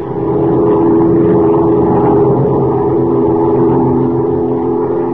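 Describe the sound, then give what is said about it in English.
Steady, loud droning of a big amphibian plane's propeller engines as it flies southward over a wild river winding through the dense jungle of Central America, a constant low rumble with humming tones that holds evenly throughout, with no voices. “As our story opens today, Major Dover and Kent are flying southward in a big amphibian plane piloted by Jack Corboy, Dover's pilot.”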